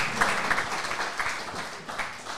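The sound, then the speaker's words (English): Audience applause at a pregame pep talk, welcoming one of the offensive players of the week: a dense, steady wash of many hands clapping at moderate volume, with no clear voices over it. “Round of applause for Wilterding.”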